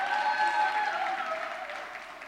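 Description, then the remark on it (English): The women of an audience give themselves a round of steady, sustained applause, a dense crackle of many hands clapping at once that holds fairly level before easing slightly toward the end. “Ladies, give yourself a round of applause this morning.”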